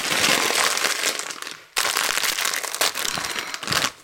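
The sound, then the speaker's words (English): A bag of pickled onion Monster Munch crisps is crinkled and torn open, a dense burst of bright, crackly rustling that runs almost continuously with a couple of brief pauses, loud and with no voices. “Now, what better last-minute pep-me-up snack than a bag of pickled onion monster munch?”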